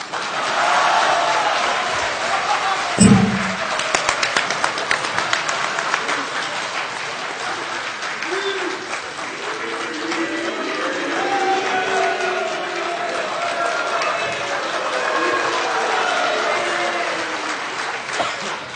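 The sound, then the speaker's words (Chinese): A live audience bursts into loud, sustained applause mixed with shouting and cheering voices, with a sharp bang early on, and the clapping and clamor carry on steadily to the end. “不带你们这样了啊！这跟着起什么哄呢？”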